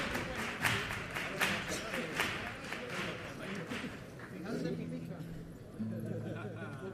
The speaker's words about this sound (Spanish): La ovación del teatro, muy sentida. Quizá no tan pasional como a otras coplas, pero llena de verdad. Esa ovación.